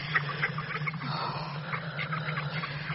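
Several ducks at a stream in Oxford quack in short, scattered bursts over a steady background rush of running water, with no talking.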